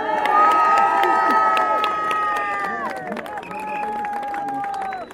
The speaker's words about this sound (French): Bonjour à tous. On applaudit encore une fois